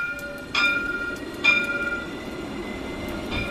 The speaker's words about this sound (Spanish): El tranvía, inaugurado hace 3 años y que pretendía unir el este y el oeste de la ciudad, parece haber fracasado en su propósito y ha sido blanco de 2 de estos atentados.